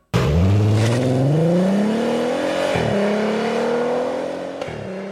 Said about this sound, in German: Tja, das klingt doch ziemlich gut. Und ziemlich gut klingt auch der Artega GT.